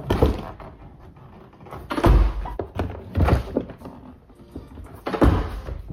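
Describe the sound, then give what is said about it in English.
A car door being opened by hand using one finger, with three solid thunks of the latch and panel spaced a second or two apart over a quiet background. “One finger door opening?”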